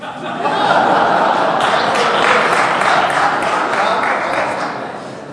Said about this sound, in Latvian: Ka kompliments viens otram tiek izsaka no šeien, šeit ir aplausi runātājiem tur.